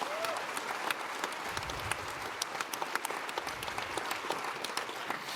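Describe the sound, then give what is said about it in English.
An audience at a Congress bursts into sustained applause for the volunteer working angels, a dense wash of many hands clapping at a steady, fairly loud level for several seconds with no voices standing out. “So an awesome applause to all the working angels that made this Congress possible.”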